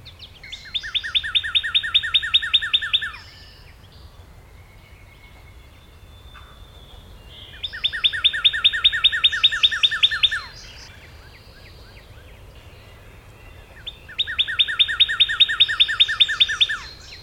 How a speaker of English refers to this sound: In my neighborhood, it's all Redbird. He's on a low limb right above the bushes. He beat the robins and the wrens. He beats the mockingbird and the sparrows. It's Redbird 1, all others 0.